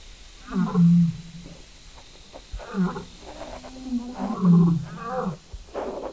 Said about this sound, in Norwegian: for eksempel så hadde vi et par nett hvor vi sov i telt, hvor vi våkner på natta, og så hører løve som brøler. Vi kan jo høre på det klippet her.